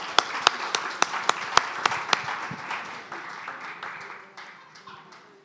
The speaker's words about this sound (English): Yeah, let's clap for all our folks here today.